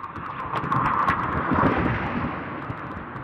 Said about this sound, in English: Lots of noise this morning, Jesus. Is it just because I got spoiled by the weekend quiet that the traffic noise out on Route 34 has just...